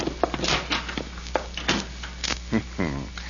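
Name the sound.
door opening and closing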